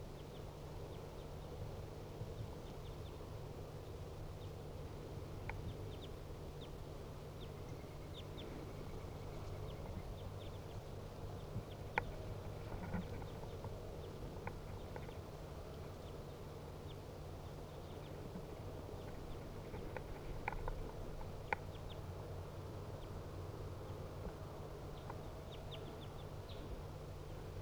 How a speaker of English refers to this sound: Two birds. Now they are sitting in the tree directly above the cage. Two wild birds calling.